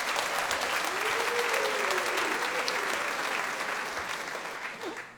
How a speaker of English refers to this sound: And a special clap for … there on the valve trombone. What a beautiful sound.